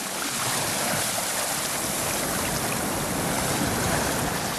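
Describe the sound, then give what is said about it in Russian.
Loud, churning, foaming water of the Yamuna River in pouring rain, with heavy waves, a continuous rushing roar with surging swells that stays steady throughout, with no voices. “Вода бурлила и пенилась, вздымались огромные волны.”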